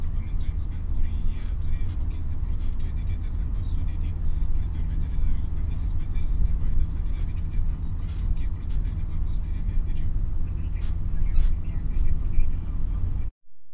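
A bus bound for Plugny, near Plateliai in Lithuania, rolls steadily along the road, its deep engine drone and road rumble filling the whole stretch, with light rattles and clicks scattered throughout before it cuts off abruptly.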